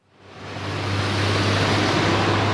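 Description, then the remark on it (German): Steady roar of dense road traffic on Rosengartenstrasse in Zurich, Switzerland, at midday, with inbound traffic crawling downhill at walking pace. It fades in and holds, a broad wash of engine and tire noise with a low hum underneath, no single vehicle standing out. “Stadteinwärts Richtung Hartbrücke rollt der Verkehr im Schritttempo bergab.”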